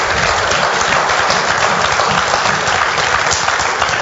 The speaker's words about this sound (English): And already, yeah, give the Lord applause.